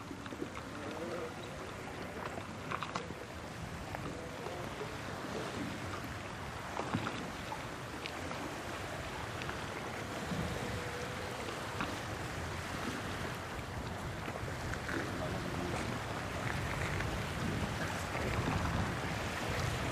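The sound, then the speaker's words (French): A continuous, fairly loud wash of ocean surf at the shore in Finistère rolls on without pause, with faint murmurs of activity and a low hum mixed into the steady roar. “J'enregistre les vagues, les allées et venues des gens, les oiseaux.”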